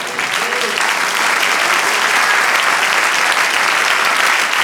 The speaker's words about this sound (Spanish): Ahora denle un aplauso al Señor.